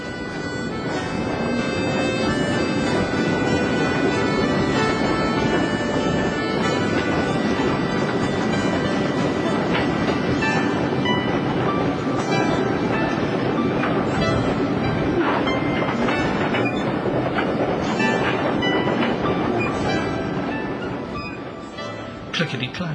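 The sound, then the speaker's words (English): A steam train rolls steadily and gently downhill along the rails through the North Yorkshire Moors National Park towards Gotham, loud, with a continuous rumbling chug and sustained tonal ringing layered over it for the whole stretch. “The rhythm of the music counterpoints to the sound of heavy steam as we roll gently downward towards Gotham.”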